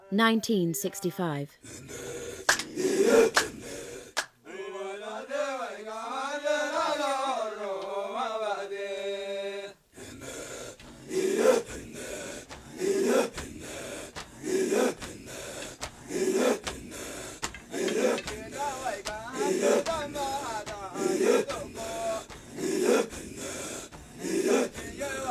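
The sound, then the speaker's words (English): An Ethiopian breathing song recorded in Asabe Teferi, Ethiopia, in 1965: rhythmic, forceful gasping breaths pulse in a steady vocal pattern, broken midway by a sustained melodic sung passage before the loud, regular panting rhythm resumes and carries on to the end. “Breathing Song, Asabe Teferi, Ethiopia,”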